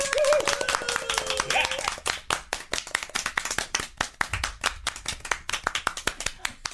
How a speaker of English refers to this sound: How long do I have to keep this clapping going? Oh, you can stop with the clap now.